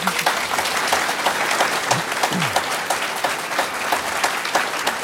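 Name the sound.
audience applause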